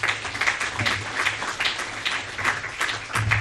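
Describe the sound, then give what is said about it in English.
A crowd at a luncheon applauds steadily for the region's representatives in Frankfort, many hands clapping in a dense, even patter at moderate volume for a few seconds with no voices standing out. “So let's give them a round of applause, please.”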